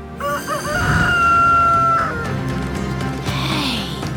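rooster crowing

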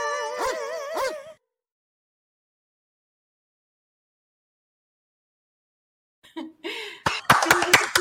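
hand clapping

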